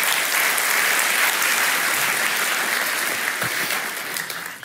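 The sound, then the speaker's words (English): A crowd claps steadily in a dense, continuous wash of applause that holds strong throughout, thinning only slightly toward the end, with no voices rising above it. “So really, I would say round of applause to all of you, because all of you contributed to this.”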